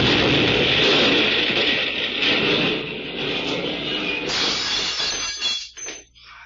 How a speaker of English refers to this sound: I got out of the car, but the explosion knocked me flat.